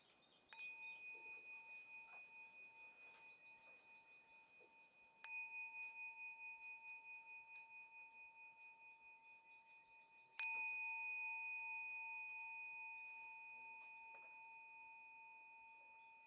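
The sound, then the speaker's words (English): A bell is struck three times, about five seconds apart, each clear ringing tone lingering and slowly fading into the next, with no voices in between. “Three sounds of the bell.”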